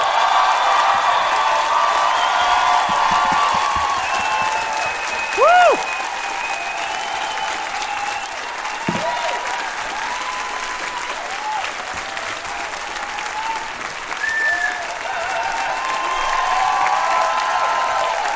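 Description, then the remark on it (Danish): Sustained applause from an audience in a hall for Jonas Gülstorff, a dense steady wash of clapping lasting the whole clip, with a few whistles and cheers rising briefly above it. No one speaks. “Mine damer og herrer, publikum, giv en stor hånd til Jonas Gülstorff.”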